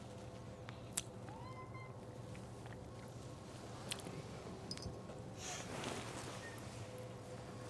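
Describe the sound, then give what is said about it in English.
A house cat moves around in a living room and stands on a person wearing recording equipment, with soft rustling, light bumps and a faint chirp-like meow over a low, steady background hum. Nobody speaks. “Kitty, you're picking a weird place to just stand on me like this when I got all this equipment hooked to me.”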